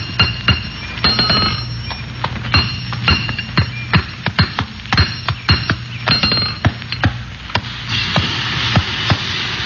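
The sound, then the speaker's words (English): Metal clanks and rings out in a blacksmith shop in quick, irregular strikes, sharp hammer blows and bright clinks overlapping with a low steady hum underneath, no voices. “We had to head for the nearest blacksmith shop, so we turned north.”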